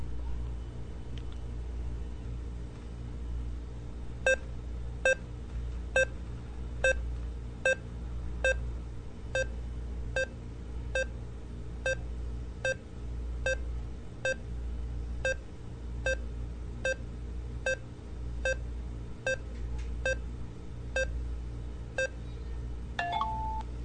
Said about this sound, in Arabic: وبعدين تلميح اللي هو ضع أصبعك على الفلاش والكاميرا. الآن راح نضغط على ستارت. الآن حتبدأوا تسمعوا نبض عادي كأنه نبض القلب.